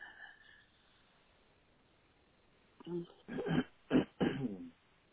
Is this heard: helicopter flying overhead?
no